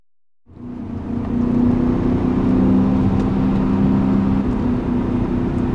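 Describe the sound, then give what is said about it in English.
The engine of a silver 2003 BMW M5 starts up after a brief silence and settles into a loud, steady drone with a rich, humming tone that swells slightly and holds, while driving mountain roads in the Hudson Valley, with no one speaking. “That engine note alone, I could fall asleep to this engine note.”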